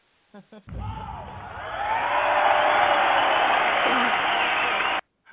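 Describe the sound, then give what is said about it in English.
An audience breaks into loud, sustained applause after a woman's story about thinking she had been left behind; it swells over a second and holds steady for about four seconds, with cheers and whoops mixed into the clapping, then cuts off abruptly. “Hey, you guys applauding because she thought she was left behind, or, you know, what are y'all applauding at there?”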